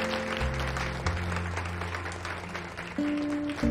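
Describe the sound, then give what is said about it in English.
A crowd at a family celebration applauds with a steady, dense clatter of clapping that holds throughout, while sustained low musical notes play underneath and shift pitch near the end. “The crowd applauds.”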